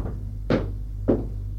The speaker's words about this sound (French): Elle frappe à la porte.